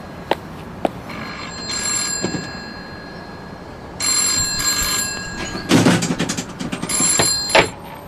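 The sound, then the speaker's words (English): An old telephone bell rings in several bright, repeated bursts, each a few seconds apart, followed by the clatter and click of the receiver being lifted. Nobody speaks. “When was the last time you were in a phone booth?”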